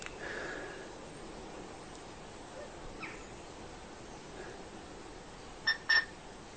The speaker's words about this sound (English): What's beeping is a phone. So I'm just going to actually go over and put more juice into the lithium, because a phone, a wonderful decked phone, is going beep beep somewhere. Now, where is it? It's hiding. It's lost.